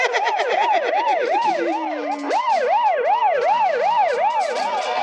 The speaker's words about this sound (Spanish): ¡Se acercan más autos patrulla! ¡Sí! Han pedido refuerzos por radio